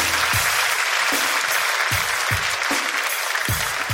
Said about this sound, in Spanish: Un fuerte aplauso para la buena amiga, por favor. Un fuerte aplauso.